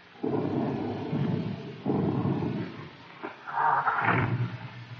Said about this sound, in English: Soldier, do you hear anything? It's the wind, Captain.